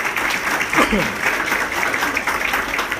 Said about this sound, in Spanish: ¿Por qué no le damos un aplauso al Señor por su grandeza, por su poder, por su amor?